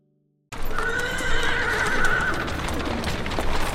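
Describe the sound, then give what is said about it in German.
Horse hooves clatter over the rough stone pavement of Vienna's inner city in March 1787 with the steady rumble of carriage wheels, while a horse lets out a long, high whinny partway through. No one speaks. “Und Pferdehufe und Kutschenräder auf holprig steinernem Pflaster ergeben ein epochal anderes Hörbild.”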